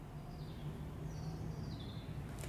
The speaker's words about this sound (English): So even over the traffic, you can still hear the birds, and it's beautiful, you can hear it.